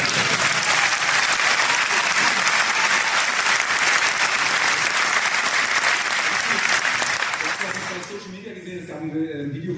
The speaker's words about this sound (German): Applaus für Studie.